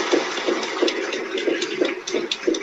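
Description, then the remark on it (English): A crowd applauds Melania Trump, who stands to accept the applause, in a steady, dense wash of clapping with a faint rhythmic pulse running through it. The sound is moderately loud and continuous, with no voices standing out. “She's standing to accept the applause.”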